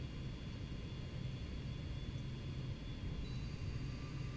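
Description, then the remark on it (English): Steady, droning airplane cabin noise during a flight: a constant low engine rumble with a broad airy hiss and faint high whine, unchanging throughout and without any voices. “I can never sleep on planes.”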